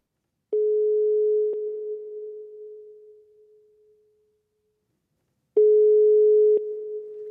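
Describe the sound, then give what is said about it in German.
A telephone ringback tone sounds while a call placed from a mobile phone connects: two steady electronic tones about a second long, roughly five seconds apart, each trailing off in a short echo, with no talking. “Okay, komm, wir rufen an. Wir ziehen das jetzt durch. Ich tippe die Nummer in mein Handy.”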